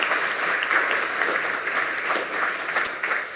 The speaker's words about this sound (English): So one final smile and a wave, one final round of applause, and we will jump right.